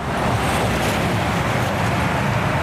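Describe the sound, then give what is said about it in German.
A steady, fairly loud roar of road traffic on Otto-Sido-Straße, a section of the Zentrumsring, with cars and trucks on two lanes in each direction, a continuous rumble of passing vehicles blending together and no voices. “Noch rollt der Verkehr ganz normal über die Otto-Sido-Straße, einen Abschnitt auf dem Zentrumsring.”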